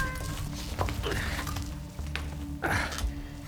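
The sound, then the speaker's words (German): A cat meows once or twice over a steady low mechanical hum, with the clearest drawn-out meow near the end standing out against the background noise. “Die Katze muss an eine Geheimvorrichtung gekommen sein.”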